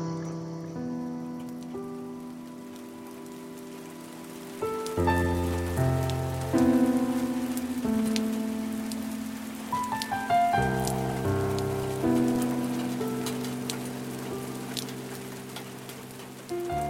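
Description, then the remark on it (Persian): Steady rain falls throughout, a soft continuous patter blended beneath slow, sustained musical tones that swell louder about a third of the way in, with no one talking. “پاییز بود و کوچه خیس و خلیده در خود، تو زیر چتر بودی من خیس زیر باران.”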